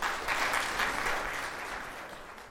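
An audience claps steadily, a dense wash of many hands at a fairly loud, even level that tapers slightly toward the end, with no voices.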